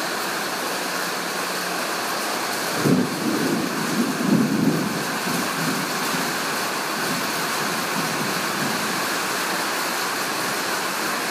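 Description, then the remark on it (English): Heavy rain pours onto a corrugated iron roof in Malaysia in a dense, steady roar of pattering drops. A couple of brief, low swells rise through the hiss early on, and no one speaks. “You're listening to the sound of heavy rain pattering on corrugated iron roof.”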